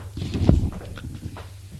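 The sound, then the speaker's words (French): Footsteps descending stairs, a handful of soft, thudding steps at an uneven pace, moderately quiet, with no one talking. “Puis continue à descendre les marches.”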